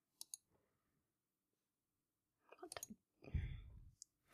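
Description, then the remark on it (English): Dice clatter: two sharp clicks, a pause, then a quick flurry of taps and a short rattling tumble before a last couple of clicks as they settle. “Let's roll the dice.”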